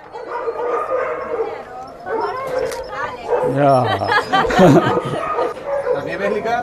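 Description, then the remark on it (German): Several dogs bark and yip excitedly, overlapping in a noisy chorus with occasional whines, while people talk over the commotion as drivers sort the dogs into their transport crates and secure them. “die Fahrer, die Hunde in ihre Boxen sortieren und sichern und wir, die dabei sein dürfen.”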